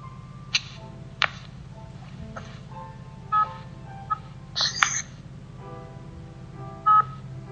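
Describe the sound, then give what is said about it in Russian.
An incoming-call ringtone plays as a string of short electronic melodic beeps at uneven intervals, fairly clear over a steady low background hum, with no one speaking. “Сейчас, секундочку, кто-то мне звонит, просто и выбивает меня.”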